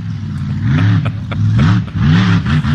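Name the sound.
monster truck engine revving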